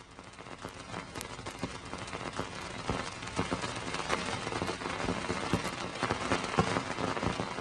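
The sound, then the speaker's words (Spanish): Sonified space probe data, a 28-minute measurement condensed into 10 seconds, from about 1,200 million kilometres away: a dense, irregular patter of sharp clicks and taps, like hail pelting a car roof or popcorn popping, steady throughout with no voices. “Esto suena a palomitas de maíz que se están haciendo en el microondas o a granizo, por ejemplo, que golpea el techo de un coche, ¿no?”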